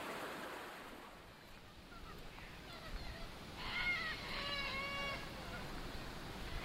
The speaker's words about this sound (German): Nun ist Dry Season. Außerdem haben wir Klimawandel. Der Jeep fährt völlig problemlos durch den Fluss.